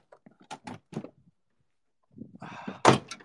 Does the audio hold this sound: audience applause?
no